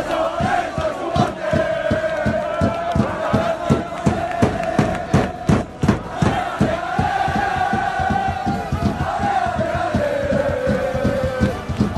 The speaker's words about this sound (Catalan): Aquesta era la festa sobre la mateixa gespa de l'estadi després que el Centre d'Esports Sabadell assolís una més que merescuda permanència a la Primera Federació.